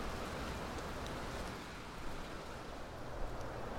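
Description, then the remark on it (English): Steady hard rain falling on a pitch-black Thursday night, the first rain in weeks, a dense, even hiss of drops with scattered brighter patters, continuous, with no voices. “It's pitch black and it's a Thursday night and this is the first rain that I've seen really in weeks.”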